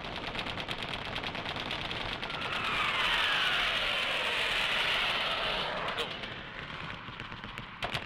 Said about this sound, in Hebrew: כרגע עבר כאן מטוס בשריקה וצלה לעברנו. האם זה מטוס שלנו,